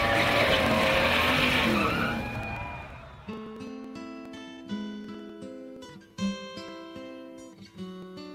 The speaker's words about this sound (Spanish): se encienden los motores. Daniel Cortés y Henry Díaz aprietan el acelerador a fondo.